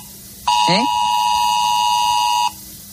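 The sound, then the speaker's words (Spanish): A mobile phone emergency alert sounds: one loud, steady, harsh electronic tone held for about two seconds, then cut off abruptly. A brief voice sound briefly overlaps it near the start. “Ya está, te llega por el móvil y, bueno, pues te sale la alerta y tienes que decir que sí, que la has visto, ¿no?”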